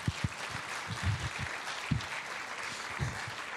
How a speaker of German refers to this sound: Kurzer Applaus bitte, da muss man immer ganz schön viel.